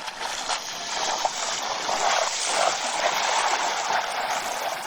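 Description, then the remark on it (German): Steady, fairly loud rushing noise of wind blowing at a beach, a continuous broad hiss with gentle surges and no pauses, with nobody speaking. “heute ist ein etwas mehr Wind, wie man vielleicht merkt. Ich stehe hier direkt am Strand.”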